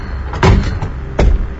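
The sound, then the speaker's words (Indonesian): A bedroom door is jostled and rattled twice as it is forcefully opened and shut, each a heavy knock-and-clatter with a short pause between, over a low steady background hum. “Dan pintu itu pun berhenti dimainkan.”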